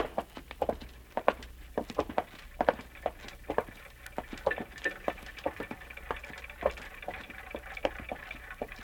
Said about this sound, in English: What's that? That noise? You mean the clocks, madam? There are more than 100 clocks in this room. I'm very fond of them.